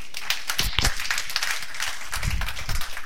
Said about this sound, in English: That is Christianity. Let us clap for Jesus.